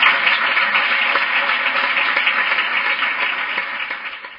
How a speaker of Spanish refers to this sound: así que de corazón, y pido por favor un aplauso grandísimo para todas las personas.